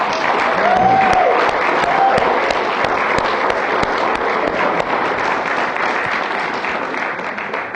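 A crowd bursts into sustained applause, dense overlapping clapping at a steady loud level throughout, with a brief whistle or two cutting through early on.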